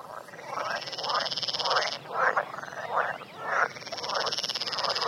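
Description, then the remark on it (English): A green frog, the species called 'grenouille verte de l'Essonne', found in the northern half of France, calls in a steady series of rapid, rasping croaks, about two per second, over a constant high insect-like trill; no one speaks. “La grenouille verte de l'Essonne, présente par exemple dans la moitié nord de la France, on va l'écouter pour voir son chant.”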